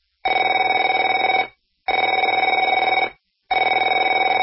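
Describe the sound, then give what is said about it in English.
A telephone bell rings in three loud, rapid trilling bursts separated by short silent pauses, with a bright, rattling metallic tone and no voices. “Afraid to answer it?”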